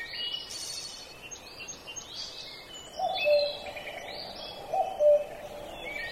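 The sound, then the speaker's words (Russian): Birds sing and chirp in a sunny forest through a steady outdoor wash, with a couple of clearer hooting or cooing notes standing out near the middle and end. No one speaks. “Солнышко светит, птички поют.”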